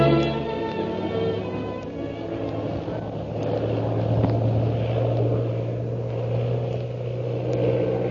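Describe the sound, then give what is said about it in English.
A propeller airplane engine drones loudly and steadily as the plane is flown in stunts, its deep buzzing hum wavering slightly in pitch throughout, with no voices. “continues her attempt to escape her pursuer by stunting her plane.”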